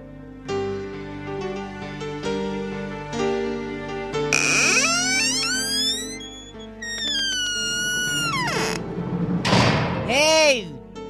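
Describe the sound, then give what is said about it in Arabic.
A heavy church door is swung shut, its hinges letting out long, wavering creaks that rise and fall before a dull thud as it closes. “هاي ليش عم تسكر الكنيسة؟ افتح الكنيسة، اكسر ايدك، عم تسكر باب الكنيسة”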